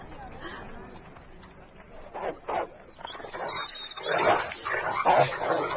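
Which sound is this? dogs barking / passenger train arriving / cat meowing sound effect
dogs barking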